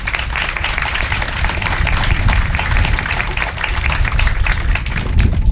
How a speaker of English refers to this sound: And again, these individuals deserve a round of applause as well.